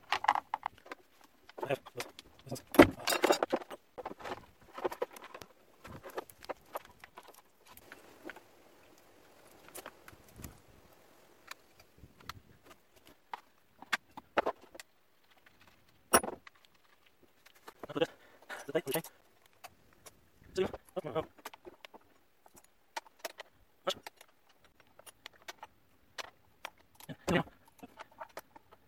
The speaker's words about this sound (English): I just got this chain. I'm going to get the new chain on the saw. This is boring, but it needs to be done.